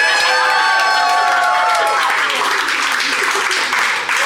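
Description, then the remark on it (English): A large crowd cheers and applauds loudly and continuously, with high-pitched shouts and whoops rising over dense clapping, sustained at full volume throughout. “Listen to that crowd going wild.”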